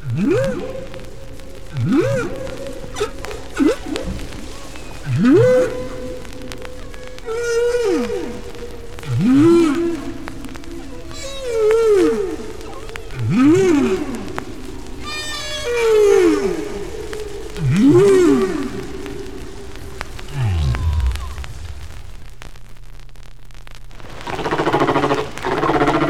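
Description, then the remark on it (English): Humpback whale song, recorded five years after an earlier recording of the same population's song: repeated sweeping moans that rise and fall in a slow, patterned rhythm, with higher chirps and clicks between phrases over a steady underwater hiss. No one speaks. “Here's a song recorded 5 years after the one we just heard.”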